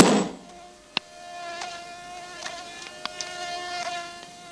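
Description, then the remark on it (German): A fly sitting on a man's face in hot weather buzzes steadily with a thin, droning whine, its pitch wavering slightly, punctuated by a few sharp little ticks and taps; no one speaks. “Die Fliege sitzt in seinem Gesicht, mitten in seinem Gesicht.”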